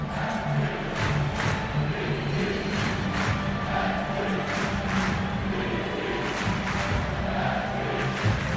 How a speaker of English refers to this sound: Well, the Timbers boast sellout crowds of 21,144 every night, and tonight, as they host the Colorado Rapids, is no different. The Timbers Army is in full voice as their team play as hosts on a ground that is dripping with both rain and history.